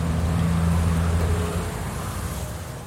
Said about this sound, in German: Das könnte alles so schön sein, wenn hier nicht überall Autos wären. Eine Reihe parkender Autos auf jeder Straßenseite, zwei Autospuren pro Richtung.